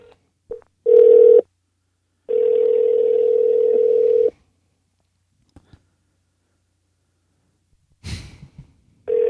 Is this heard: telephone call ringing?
yes